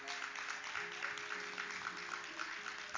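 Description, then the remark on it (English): An audience claps together, a dense, steady patter of many hands that holds at an even level for the whole few seconds, with a faint sustained tone humming underneath. “You're going to see our men be, clap.”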